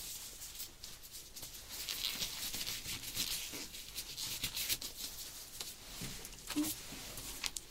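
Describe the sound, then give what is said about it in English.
Soft, continuous rustling of papers being shuffled and flipped while someone searches for a paper, with scattered crisp crinkles and brushes over several seconds, fairly quiet, with no voices. “Okay, let me just find your paper. It should be somewhere here.”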